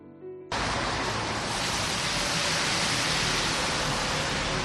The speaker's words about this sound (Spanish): Esto que se oye es el tráfico de una gran avenida en Madrid, una avenida comercial donde hay tiendas de todo tipo, y yo estoy en este momento delante de una tienda de ropa de segunda mano.